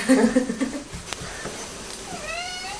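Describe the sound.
A person mimics a pet cat named Birdie, making a whiny meow, then a pause and a second drawn-out, wavering meow that trails off at the end.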